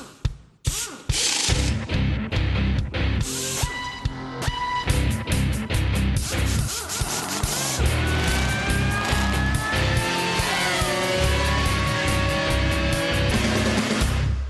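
Loud racing car engines roar continuously, their pitch climbing and sliding as they rev and accelerate, with choppy, pulsing bursts early on before a steady high-revving drone takes over.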